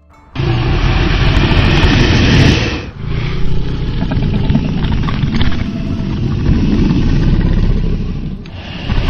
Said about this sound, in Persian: ناگهان صدایی شبیه غرش خفیفی از عمق غار شنید. صدایی که انگار از دل کوه برمی‌خواست.